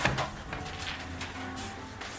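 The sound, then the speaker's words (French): A door at number 11, rue du Loisir is pushed open by a visitor and then shut, with a few short wooden knocks and latch clicks, rattling faintly. “Poussez la porte.”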